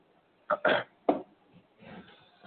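human body sound, coughing and throat clearing

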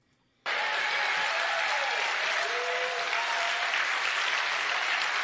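crowd, audience clapping

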